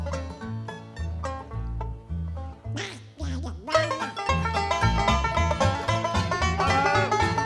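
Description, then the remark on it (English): A voice does a short run of nasal, duck-like quacks midway through, riding over a loud band playing steadily underneath. “Here I go, like a duck.”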